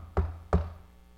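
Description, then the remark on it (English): Two solid knocks on a door, evenly spaced about a third of a second apart, each with a deep woody thud and short decay, over a faint low electrical hum. “And they come and they stand at the door and they knock.”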